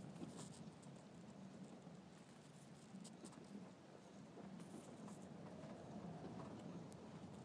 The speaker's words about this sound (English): It's a long weekend and the final day, and we thought we'll go and see Saint-Emilion, and then it started raining. Yes, it was dry when we decided.